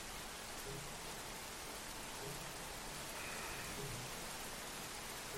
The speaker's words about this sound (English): And now the hard rain is going to fall.